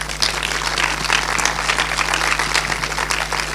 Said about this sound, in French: On peut l'applaudir.